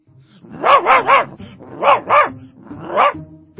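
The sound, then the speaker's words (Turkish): A dog, Karabaş, barks six times in quick bursts in a back garden, three in a rapid run, then a pair, then a single bark, each loud and harmonic with a slightly rough edge. No one speaks. “Sonra onun sesini duydum.”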